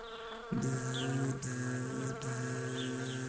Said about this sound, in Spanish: En ese momento, una abeja se acercó volando, se posó suavemente sobre una flor y le susurró al oído.